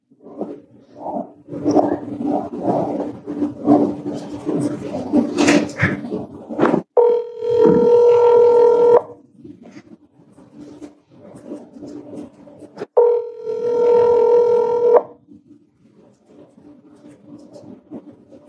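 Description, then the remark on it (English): An outgoing phone call's ringback tone, from a recorded call to Chad Daybell's phone number on December 8th at 3:43 p.m., sounds twice, each steady buzzing ring lasting about two seconds with a pause between, after a stretch of rustling, muffled handling noise. “So here goes the phone call.”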